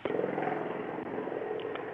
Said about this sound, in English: we got a plane flying overhead at the moment, okay, probably looking for one of us.